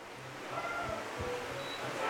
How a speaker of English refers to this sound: And the rain is starting to pour. It's really coming down.